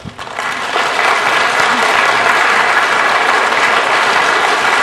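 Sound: audience applauding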